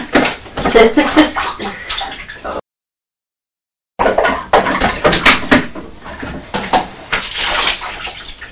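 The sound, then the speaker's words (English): Water splashes and sloshes noisily in two bursts separated by a short silence, with irregular pouring and clattering sounds as water is tipped into a washing-up bowl with toys in a kitchen and spills over onto the floor. “Oh, no, that wasn't for you to put water in there.”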